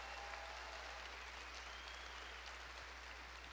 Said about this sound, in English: I want to welcome those of you who regularly attend Calvary Chapel. Would those of you guys who are regular attenders, will you clap? Just let us know you're here.